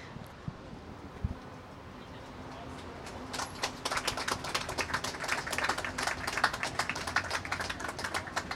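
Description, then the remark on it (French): An audience breaks into applause after a few seconds of quiet, scattered taps: a dense, steady crackle of many hands clapping at once that holds to the end, with no voices. “Bien, donc j'imagine, c'est que vous n'avez pas de questions, si vous applaudissez, toujours pas.”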